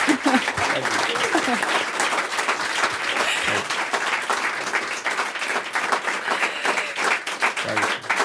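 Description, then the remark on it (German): Sustained audience applause, a dense, even wash of many hands clapping at steady volume for several seconds, with faint voices mixed in underneath. “Dein Applaus.”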